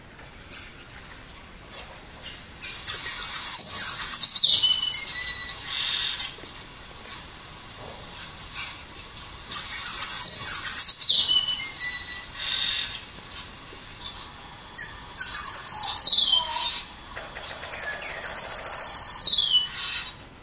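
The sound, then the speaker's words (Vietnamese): A sparrow sings in repeated bursts of high, descending chirps and trills, with brief pauses between phrases, clear against a soft hiss, with no talking; the first part is its ordinary song, the later part is the sparrow singing to call its mate. “Nếu quý vị thấy nó hai đoạn khác nhau, đoạn đầu đó là người ta thâu một cái loại chim sẻ nó hót thường, đoạn sau đó là chim sẻ nó hót mà nó kêu bạn của nó.”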